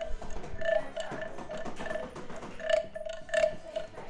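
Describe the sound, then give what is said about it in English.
A large wooden frog rasp, its stick missing, is scraped with a ring, giving a rough, croaking rattle in repeated strokes with a ringing tone around them, loud and steady throughout, with no talking. “Oh, it's one of those big frog things. Where the stick seems to have gone, though.”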